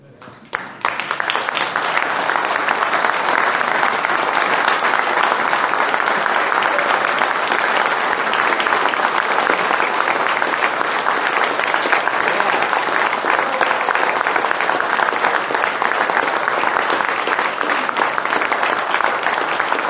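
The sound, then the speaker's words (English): An audience bursts into a sustained round of applause given to God, dense and loud throughout, with many hands clapping in a steady roar after a brief quiet start; no speech over it. “So why don't we give God a round of applause deserving of God?”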